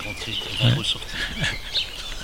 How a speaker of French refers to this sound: Voilà, on est en pleine nature. Et donc, on entend de temps en temps quand même des véhicules qui passent à côté. Mais bon. Mais les oiseaux, on les entend aussi.